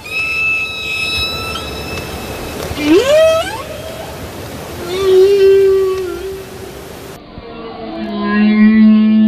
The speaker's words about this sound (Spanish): Ballenas.